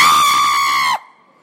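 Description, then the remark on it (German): A loud, shrill shriek held steadily for about a second at a high pitch, then cut off abruptly, leaving a faint lingering tone. “Soll ich nochmal kreischen?”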